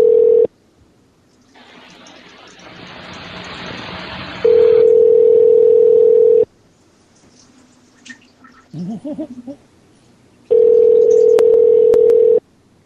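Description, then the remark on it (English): A telephone rings with a steady, loud electronic tone: one long stretch partly overlaid by hissy noise, a pause with faint gurgling sounds, then a second shorter burst of the same tone. “The sound of phone ringing.”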